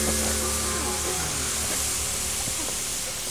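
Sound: garden hose spraying water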